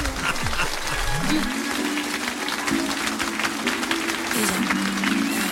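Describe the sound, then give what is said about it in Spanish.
Steady applause, the official applause of the Trivian Company quiz, given after a contestant's guess: a dense crackle of clapping that holds at an even level for several seconds, with a low, sliding tone and some voices running underneath. “Te mereces los aplausos oficiales del Trivian Company.”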